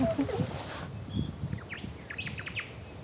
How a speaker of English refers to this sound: Or the Noma'o, the Hawaiian thrush, can sound like little DJs. Anyone hearing that Noma'o? Wicker, wicker, wicker, wicker, wicker, wicker.